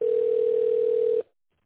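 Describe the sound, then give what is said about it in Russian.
A single steady telephone ringing tone, one flat mid-pitched beep held for just over a second at a loud, even level, then cut off abruptly into silence, heard as a call to the company Russkiy Ugol (Russian Coal) is transferred to the secretary. No voices. “Вызов переводится на секретаря.”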